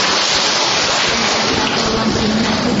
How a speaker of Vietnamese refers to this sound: Chúng ta cho một tràng pháo tay để chúng ta tạ ơn Chúa và cảm ơn Chúa.